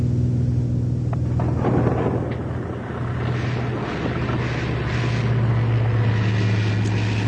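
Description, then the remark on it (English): A small propeller plane in flight drones steadily while a thunderstorm rumbles around it, deep rolling thunder and rain noise washing over the engine hum without pause. “If by chance we should not pass through this incredible maelstrom, you will find instructions for the disposition of my worldly goods and my remains, should there be any”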